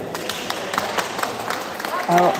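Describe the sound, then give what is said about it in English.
A crowd of spectators, mostly women, outside a courtroom claps in scattered, uneven bursts amid a dense background murmur, applauding Madame Pellico as she walks out, and near the end a voice rises in a loud cheering call of bravo over the applause. “You can hear them applauding, saying bravo.”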